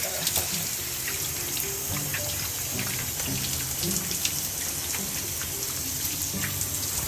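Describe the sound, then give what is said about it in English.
Steady warm running water splashes and patters as it wets hair before shampooing, with soft irregular droplet taps and no voices. “So we're gonna like wet it one more time with some hot water.”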